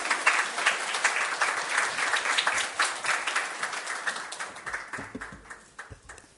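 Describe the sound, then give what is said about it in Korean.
An audience applauds to welcome a missionary who has served ten years in Tanzania, with dense, steady clapping that holds for several seconds, then thins out toward the end as the last few claps trail off. “우리 선교사님 박수로 맞이해 주시기 바랍니다.”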